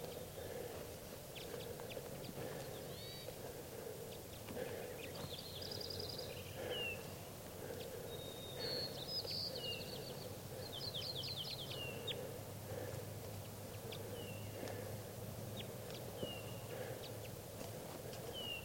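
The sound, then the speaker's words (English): Several birds give short, high chirps and trilled calls at irregular intervals near a cage, over a steady low background rumble. No one speaks. “I'm going to try to herd the birds a little bit.”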